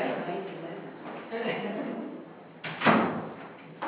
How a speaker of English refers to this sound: maybe we should close the door. Yeah. Thank you.